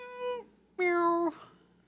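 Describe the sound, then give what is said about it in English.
A cat meows twice, clear: a shorter call followed by a longer, louder drawn-out meow, each with a bright harmonic tone and a slight downward bend at the end. “Down to the Fur Planet Emporium and get yourself a pre-owned cat.”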